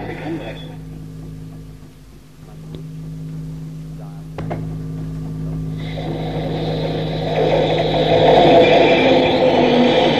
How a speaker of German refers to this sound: Na, da kommt die Straßenbahn.